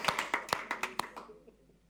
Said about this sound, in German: Ja, man darf klatschen. Ja, man darf. Halleluja. Keine Angst zum Klatschen.